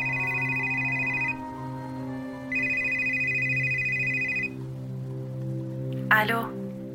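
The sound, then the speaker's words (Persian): A mobile phone rings twice, each ring a bright, high-pitched electronic trill lasting a second or two, over a steady low hum, followed by a short rustling swish. “تو همین فکر را بودم که موبایلم زنگ خورد.”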